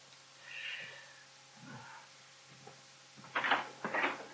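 A door opens: a faint creaky squeak and soft knocks, followed by two louder scraping, rattling bursts near the end. No one speaks.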